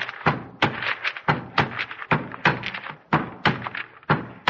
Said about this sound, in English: Here, help me put the seals on the certificates.